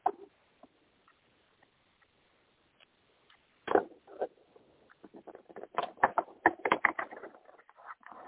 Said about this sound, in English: One second, I'm going to shuffle the cards.